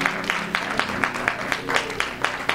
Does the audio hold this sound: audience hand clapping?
yes